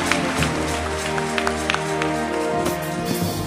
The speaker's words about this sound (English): Give me a clap.